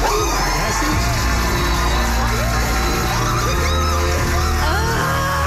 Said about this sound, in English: I love screams like that.